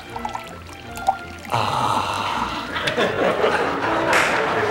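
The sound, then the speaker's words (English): Water is poured steadily into a glass by a man, a continuous splashing, gurgling stream that starts suddenly after a brief quiet moment and carries on fairly loud until the end. “He pours, mouth open, eyes closed.”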